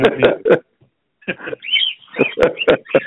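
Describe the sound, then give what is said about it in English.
A bird chirps and chatters loudly in short, choppy bursts over a phone line, with a brief pause and some squeaky whistled notes mixed into its speech-like babble. “We even have a bird on with us.”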